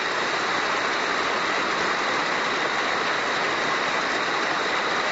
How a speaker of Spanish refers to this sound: Un aplauso largo, además.